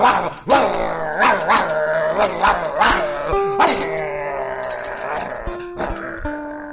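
A dog growls and barks in a rapid run of loud, harsh yelps, ending in a few longer, drawn-out whining tones.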